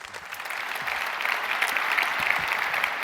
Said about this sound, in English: Please give them a huge warm welcome with an applause.